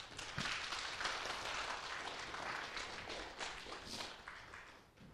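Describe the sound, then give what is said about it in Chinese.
Warm audience applause, a dense, steady wash of many hands clapping that holds for about five seconds before tapering slightly at the end. “好，我们再次给他们热烈掌声，好不好？”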